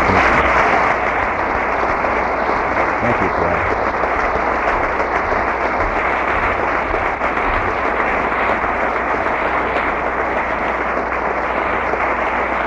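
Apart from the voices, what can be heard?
audience applause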